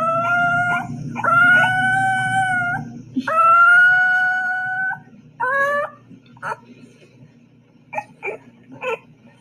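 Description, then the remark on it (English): A puppy lets out several long, wavering high-pitched howls, then breaks into a run of short, sharp yips, loud and clear over a low background rumble. “Do you think you could translate this puppy dog that I met the other day? I'll play it for you.”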